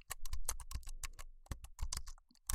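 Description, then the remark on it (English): Rapid, irregular keystrokes clatter on a computer keyboard, a steady burst of typing with sharp clicks and brief pauses, no voices present. “The computer keyboard as a device for electromechanical data entry and communication derives largely from the utility of two devices.”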